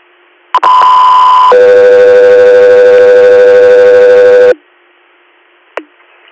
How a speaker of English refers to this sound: Echo 3 here, stand by for tone.